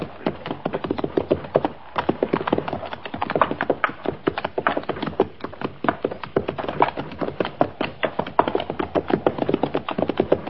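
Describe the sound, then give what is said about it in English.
Horse hooves clatter in a quick, steady clip-clop that runs the whole way through, fairly loud, like riders moving along at a brisk pace, with a horse over by a stream. “There's a horse yonder, Captain, over by the stream.”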